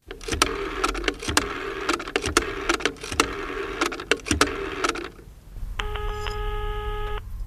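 Several seconds of rattling, clattering mechanical noise give way to a single loud, steady electronic telephone ring lasting over a second, heard clearly on its own.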